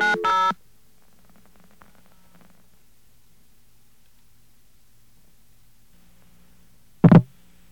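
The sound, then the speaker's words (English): A short, loud burst of telephone keypad tones as someone dials the operator on a phone system, then a long stretch of near silence with faint low hum, ending in one brief, sharp burst of noise. “I don't know what's wrong with this phone system, but I think we're due for a replacement here.”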